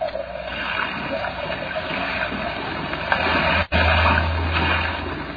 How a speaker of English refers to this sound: Unfortunately, Mr. Bartell, I'm not much of a sailor, and as the wind was blowing hard and the sea racing, I'm afraid I wasn't a very intelligent companion.